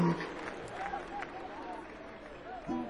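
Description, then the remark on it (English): A concert audience calls out in long, drawn-out voices that sound like booing after fiddler Luke Bulla is introduced, over a steady wash of crowd noise and scattered clapping, with a deeper sustained call at the start and end. “It sounds like you all are booing me.”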